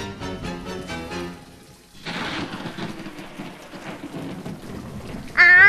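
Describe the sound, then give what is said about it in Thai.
A tonal musical passage fades out, then steady, dense rain starts hissing with low rumbling thunder underneath, loud, ending in a sharp bright swell. “ฝนตกซะแล้วอย่างนี้ไม่ดีแน่”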